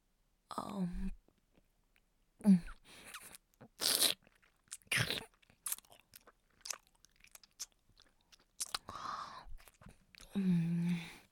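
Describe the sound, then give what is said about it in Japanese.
Wet chewing and crunching sounds of someone chewing smegma come in irregular bursts, with brief pauses and soft breathy vocal noises between them. “私がチンカスもぐもぐするところ、ご覧ください。”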